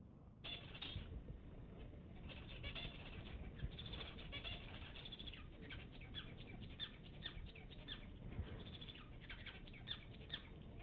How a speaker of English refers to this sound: These are called Bengalese finches, and they sing in finite state grammar.